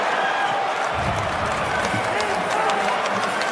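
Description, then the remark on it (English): A large crowd at the 2021 NBA draft cheers and applauds as the Toronto Raptors select Scottie Barnes from Florida State University with the fourth pick, in a steady, loud roar that fills the whole stretch, with sharp scattered claps and a babble of many voices mixed in. “You heard the crowd.”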